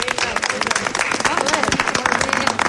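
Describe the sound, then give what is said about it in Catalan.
A crowd applauds steadily at a prize draw after a winning ticket is read out, dense overlapping claps filling the whole stretch at an even, fairly loud level, with some voices mixed in underneath. “Un aplaudiment, no?”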